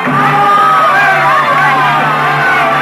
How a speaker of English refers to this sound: It was then that I first experienced what will always be to me in all the range of human feelings, the supreme exaltation when you hear the full frenzied applause of an audience for you alone.